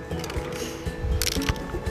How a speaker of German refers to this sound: Vielleicht könnt ihr noch mal sprühen. Wir sprühen noch mal